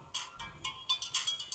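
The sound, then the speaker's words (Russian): A phone rings with a quick, repeating electronic melody of short bright tones, fairly quiet, with no one talking over it. “Отвечу тут по телефону.”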